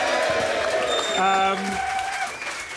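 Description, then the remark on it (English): An audience at the Prince in South West London cheers loudly at the end of a House of Rugby show recording, a dense roar of voices and clapping, high whoops and sustained shouts rising through the middle before the noise gradually eases toward the end. “Thank you to our fantastic audience here at the Prince in the South West of London. Give yourselves a cheer.”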